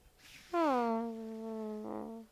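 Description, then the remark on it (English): A single long, drawn-out fart with a droning, whiny tone that sags lower in pitch and holds for almost two seconds, loud, briefly preceded by a soft breathy hiss. “Oh my God, that was the saddest fart of the night.”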